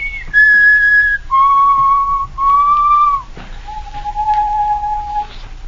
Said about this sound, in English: Just keep whistling.